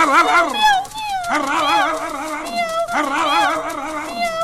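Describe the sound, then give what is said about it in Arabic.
Excited dog barking and yipping in three long, wavering bursts, fairly loud, with high whiny cries rising and falling between them. “ولكن قبل كل شيء سأعلمك ماذا تفعل الكلاب بالقطط.”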